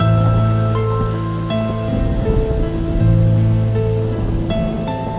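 Steady rain hisses continuously beneath sustained musical chords that shift every second or so; the rainfall sounds close and even, with no voices present.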